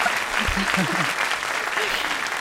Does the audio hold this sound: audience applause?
yes